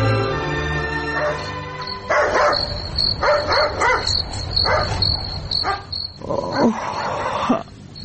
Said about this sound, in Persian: تو پاش ببینم که ای سگ چرا میجفه، خدا نکده توس نامده باشه. او زن چی گپ از ده این نیمه شو کت خود گپ زده میری خیرت هست؟ او مرده که سگ میجفه، من گفتم خیدوز آمده.